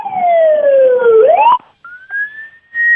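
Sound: ambulance siren passing by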